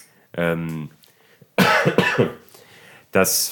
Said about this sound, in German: Ich huste sehr viel. Vielleicht habe ich wirklich Corona.